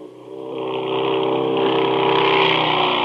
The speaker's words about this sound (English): It's only a motorcycle, but it could be a blessing. Because even though you're rested, driving can make you drowsy. How do you fight back? You don't wait for a motorcycle to roar by.